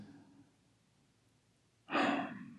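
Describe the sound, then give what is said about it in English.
A person imitates shallow, quivering breathing: after a faint murmur and a short pause comes one sharp, breathy inhale, fairly loud, that trails off unevenly. “But damn, that shallow breathing, making them quiver like this.”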